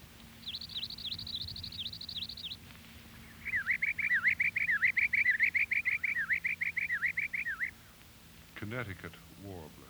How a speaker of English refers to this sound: Palm warbler.